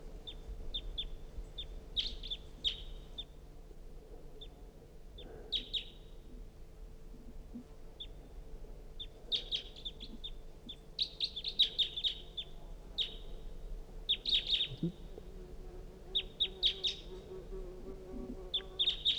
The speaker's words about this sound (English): It's a recording. Pointed at the wild bird. It's giving calls. That was the decoys. Wild bird calling.